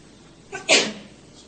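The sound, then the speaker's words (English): A single sneeze with a short inhaled lead-in followed by a sharp, loud burst, otherwise quiet. “God bless you.”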